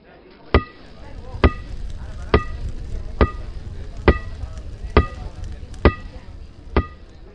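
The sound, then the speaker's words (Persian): A hammer strikes iron in a shop eight times at a steady, unhurried pace, each blow a sharp, loud clang with a brief bright metallic ring, over a low rumbling background. “در مغازه مشغول کار بودم و تنها صدایی که میشنیدم طبق معمول صدای آشنای کوبیدن چکش بر روی آهن بود که سالها با آن خو گرفته بودم.”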